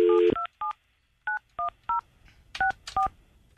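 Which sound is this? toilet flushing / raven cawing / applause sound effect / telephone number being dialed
telephone number being dialed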